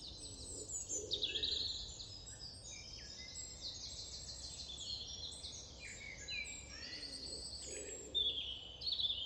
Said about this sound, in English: I'm guessing dawn chorus.